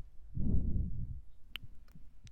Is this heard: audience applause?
no